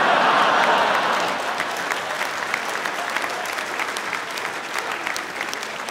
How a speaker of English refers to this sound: That was quite a polite sort of round of applause, like someone had scored a 4 in cricket for a joke about fetal alcohol syndrome.